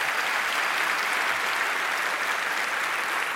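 Steady audience applause at the end of a talk, before questions, a dense, continuous clatter of many hands clapping at once with no talking over it, holding even loudness throughout.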